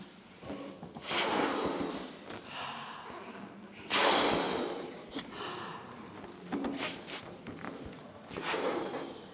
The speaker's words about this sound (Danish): Vi ånder ind, og så ånder vi ud i vores balloner. Og skal ballonerne fyldes helt op, så kræver det, at vi ånder ind og ud nogle gange.